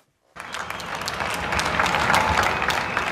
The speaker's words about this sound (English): Every night at 8 p.m., people all over Spain go to their windows and balconies and applaud. It's a show of gratitude towards the healthcare workers putting in long hours to fight the coronavirus epidemic.